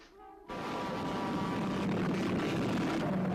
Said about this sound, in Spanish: Esto ya suena más que a coche a camión. Bueno, es que es el coche contra el camión, que es una bonita historia de amor imposible, cuyo título original es Duel, y que en España se retituló, vaya usted a saber por qué, El diablo sobre ruedas.